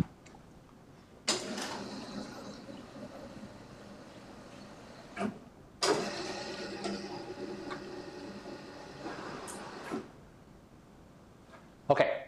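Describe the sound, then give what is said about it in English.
A board being raised: two long, steady mechanical whirring runs of about four seconds each, both ending in a clunk, with a few sharper knocks near the end. No one speaks. “So I guess I want to raise the board.”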